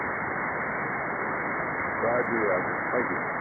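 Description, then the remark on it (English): A steady hiss of radio static from an amateur radio club station signal, call sign Victor Echo 7 Sierra Charlie Charlie, operated remotely about 10 miles from the operator, with a muffled, narrowband sound as a faint garbled voice briefly breaks through the noise in the second half. “So technically that's the signal you're hearing there”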